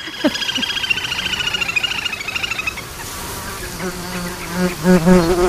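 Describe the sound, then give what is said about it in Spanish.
Mosquitoes buzzing, a dense, high, wavering whine with a steady pulsing flutter that eases after a few seconds into lower, drifting buzzing tones. “Y sobre todo ese zumbido como un poco desquiciante, que son los insectos, los mosquitos.”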